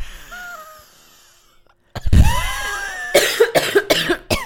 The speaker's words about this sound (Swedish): Nej, jag gör inte det. Jag hostar. Ja, du ringde mig igår och då lät det som att... Eller var det i morse? Igår kväll. Som att du hade lunginflammation. Kan du göra så där? Ja. Det bubblar där. I luftrören.